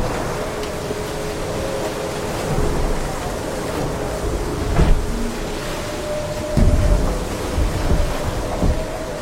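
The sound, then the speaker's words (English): Water sprays steadily against glass windows in a continuous rushing wash, with a few heavier splashes surging through and a faint low hum underneath. No one speaks. “She lowers the phone and stares off as water sprays the clear windows around her.”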